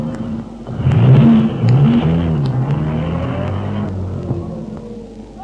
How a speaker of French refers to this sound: Et oui, dans le bas de combat, les hommes courent, sautent dans des voitures qui démarrent, à fond de train.